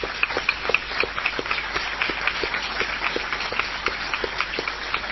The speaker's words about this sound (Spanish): que está presente y a quien saludamos ahora con un aplauso.